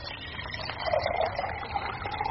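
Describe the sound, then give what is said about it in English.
Water used to warm a teapot is emptied out of it, a continuous splashing gush lasting a couple of seconds, fairly loud, with no one speaking. “Warm the pot. Empty that out.”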